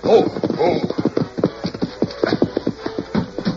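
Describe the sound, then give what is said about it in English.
A horse gallops with a man riding it very fast, its hoofbeats striking in a fast, steady rhythm of loud, sharp thuds that carry on throughout without any voices. “Man come, ride plenty fast. Gee, he must be in an awful hurry.”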